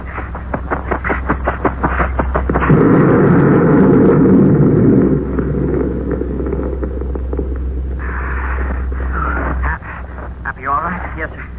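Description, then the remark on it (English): A deep, rumbling blast from a dropped crate of explosives swells up and roars for a few seconds before fading, kicking up a lot of dust on Jupiter's fourth moon, heard over a steady low hum, with voices talking before and after it. “That explosion kicked up a lot of dust.”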